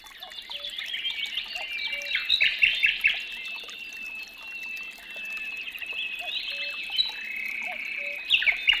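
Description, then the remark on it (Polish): Several birds sing and chirp continuously in a dense, overlapping chorus of high trills and whistles, with a faint watery trickle or rustle underneath and no voices. “Dla Lilki ważny jest śpiew ptaków, rzeka, którą może usłyszeć, kiedy wieje wiatr.”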